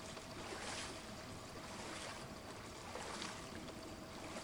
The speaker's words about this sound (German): Im Kino herrscht Ruhe. Nur das langsame Plätschern des Wassers ist zu hören.